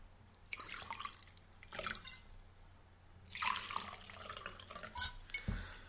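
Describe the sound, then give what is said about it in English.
Wine pours into a glass in a couple of gurgling, splashing bursts, fairly quiet, with a brief clink at the end and no talking. “Right, would you like to pour?”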